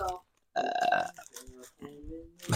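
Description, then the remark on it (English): A loud, drawn-out burp that brings up the taste of oyster, with a rough, throaty rasp lasting about half a second, followed by brief vocal sounds and murmured talk. “I just burped up oyster, so I didn't even smell the bag.”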